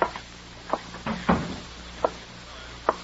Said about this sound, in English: Close the door, please. Sure.